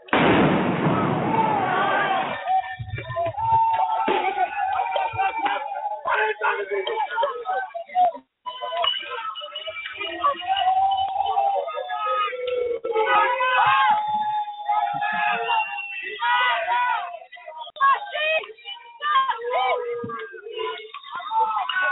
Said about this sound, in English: All right, so that's what it sounds like. There's a lot of, obviously, bottles being broken, but the police and the crowds massing.